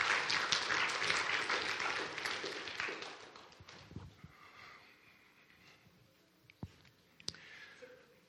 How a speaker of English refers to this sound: Thanks, guys. How about give these guys a nice clap?